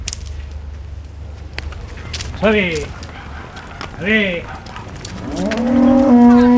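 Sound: cattle herd mooing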